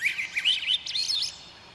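A bird chirps in a quick, warbling run of high, sliding notes for about a second, fairly close and clear, then fades out, with no voices present.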